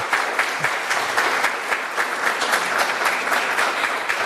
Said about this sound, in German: Danke, danke. Schön, ne? Gleich so einen frühmorgens Applaus zu kriegen. Man wird sofort wach.